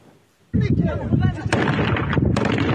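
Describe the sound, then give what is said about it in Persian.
Gunfire exchange on the Iran–Afghanistan border between Taliban forces and Iranian border guards in Nimruz province: after a moment of near silence, loud gunfire breaks out, a dense, sustained barrage of overlapping shots, with a few sharper cracks punching through the steady roar. “تبادل آتش در مرز ایران و افغانستان و دست کم 3 نفر کشته.”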